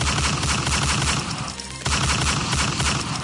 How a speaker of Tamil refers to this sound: உலக புகழ் பெற்ற யூடியூப் காணொளி ஊடக தலைமை காரியாலயத்தில் துப்பாக்கி சூடு.